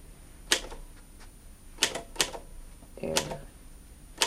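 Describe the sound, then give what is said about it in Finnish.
Typewriter keys strike in sparse, irregular clacks, about five sharp impacts with a brief mechanical rattle midway, fairly quiet with no talking. “Jos osaat kirjoittaa kynällä, osaat kirjoittaa koneellakin.”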